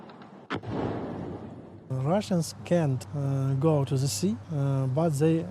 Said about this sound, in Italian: Odessa è la città più bombardata del paese insieme alla capitale, Kiev. Qui il rumore dei droni e quello dell'antiaerea sono diventati una sorta di inquietante colonna sonora dell'estate.